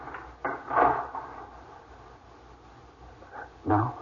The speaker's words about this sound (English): No, you go into the living room. Lock the door, dear.